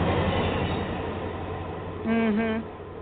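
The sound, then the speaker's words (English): A steady rumbling train sound effect, moderately loud, ends with a short two-part horn blast, two quick hoots in close succession over the continuing rumble. “Watch out for the Trump train.”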